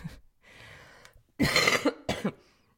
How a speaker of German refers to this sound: Ab und zu muss ich auch mal husten.